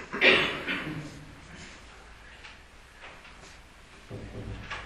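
An outer door swings shut with one scraping thud near the start, followed by quiet background noise and a faint shuffle toward the end.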